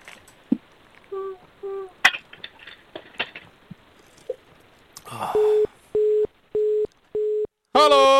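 telephone line tone

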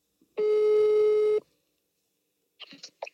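telephone ringing tone

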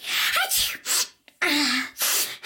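a single sneeze

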